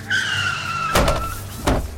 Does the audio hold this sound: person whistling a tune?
no